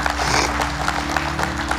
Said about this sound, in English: The scary thing is that there are people like, give me the golf clap today. Like, good job. Way to go,